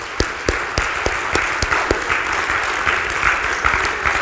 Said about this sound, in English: Let's just give a round of applause for Lisa and her VBS gang.